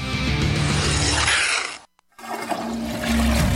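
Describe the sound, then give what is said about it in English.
A loud toilet flush rushes and roars with churning water, cuts out abruptly for a moment, then resumes with a steady gurgling swirl as the bowl drains and refills. “The toilet sneeze. Every flush spews bacteria onto surfaces that little Bobby touches and then spreads to the light switch and everywhere else in the house.”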